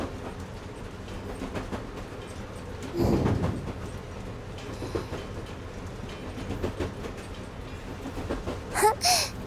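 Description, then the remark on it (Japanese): Steady rumble of a train running, heard from inside the locomotive cab, with rhythmic clattering, a louder burst of noise around the third second, and a brief high squeal near the end. “聞き慣れてるキャブ内の音でもこれだけ心地よく聞こえるんだもんね。”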